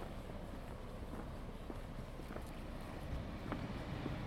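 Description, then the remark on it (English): Steady outdoor wind rumbles and buffets the microphone on a hot, windy Tuesday afternoon in Petersham, Sydney, on the way to a bowling club, a low continuous roar with a few faint scattered clicks and taps underneath. No voices. “I'm heading to the Petersham Bowling Club on a hot and windy Tuesday afternoon.”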